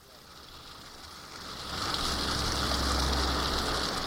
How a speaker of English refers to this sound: Tannery Creek runs through the middle of Woodstock, New York, in the Catskill Mountains. It's about 120 miles from New York City, yet streams like this one is where the Big Apple gets most of its water.